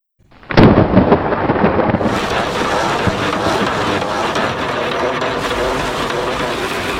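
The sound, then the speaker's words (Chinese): A sudden, loud crack of thunder breaks the silence as heavy rain approaches, then rolls into a heavy, sustained rumble with a broad hissing roar that carries on steadily for several seconds. No one speaks. “打雷了，要下大雨了”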